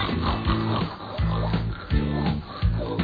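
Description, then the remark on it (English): A voice imitates a pig, making a run of about five low, nasal oinking grunts in a steady, bouncy rhythm, fairly loud over a busy musical backing. “We're snakes, and we're pigs, too.”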